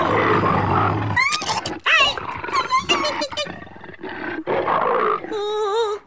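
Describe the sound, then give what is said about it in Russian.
A tigress roars and snarls in several loud, ragged bursts, with rough growls between them and a higher, wavering cry near the end. No one is talking. “Это же тигрица, дикий зверь, а вы ее за усы дергаете и пятками пинаете.”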